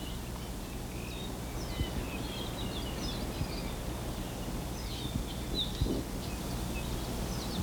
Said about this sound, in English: The squeaky sounds are probably Apapanis. The more buzzy ones, there, that was an Amakihi.